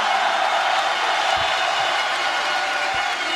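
A crowd of about 10,000 people from across Europe applauds steadily, thousands of hands clapping into a dense, continuous wash of sound that stays loud and even throughout, with no voices standing out.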